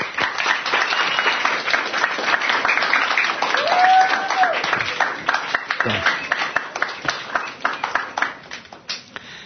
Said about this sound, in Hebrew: נו, נעשה להם כפיים.